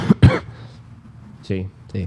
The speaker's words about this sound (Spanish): Buena tos.